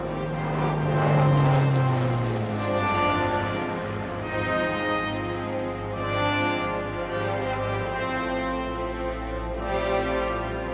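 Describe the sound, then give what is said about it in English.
A Spitfire propeller plane drones past the white cliffs of Dover at steady volume, its engine pitch sliding lower early on as it passes, then settling into a continuous rumbling hum with no voices. “The Spitfire again, cruising past the white cliffs of Dover.”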